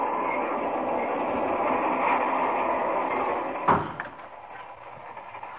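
A steady, dense rumble of a fast passenger train rolling along the rails, with a sharp clunk near the end after which the roar drops a little quieter and thinner.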